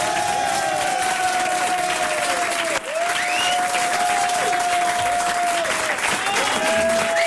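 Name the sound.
studio audience applause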